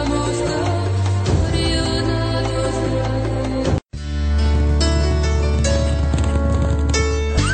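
Horse hooves clip-clop steadily beneath a full, loud music bed, with a brief silent break midway before the hoofbeats and music resume together. No one speaks.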